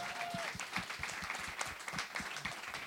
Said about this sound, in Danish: Klap lige af